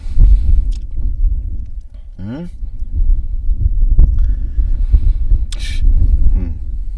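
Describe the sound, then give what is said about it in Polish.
Wind, blowing more and more strongly, buffeting a microphone, a steady low rumbling roar that surges and dips throughout, with a few brief faint sweeping noises and scattered murmurs on top. “Słuchaj, bo wieje coraz bardziej wiatr, więc tak, musisz coś mówić, bo jak nie mówisz, to będzie słychać tego szumiący wiatr.”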